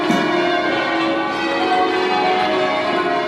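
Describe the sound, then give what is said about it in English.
A dense wash of many church bells ringing together, their overlapping tones and shimmering overtones blending into a loud, continuous, resonant clamor with no pauses. “and I think this is what you're talking about, is the undertones, the overtones and harmonics that are generated when a lot of bells are being played together, and sometimes you just feel like you're showering under thousands and thousands of bells.”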